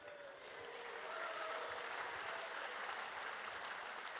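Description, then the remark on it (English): A crowd applauds steadily for the technical people, a dense wash of clapping hands that swells in the first half second and holds at an even, loud level throughout, with no speech. “Again, let's give a huge round of applause for all the technical people who make shit happen.”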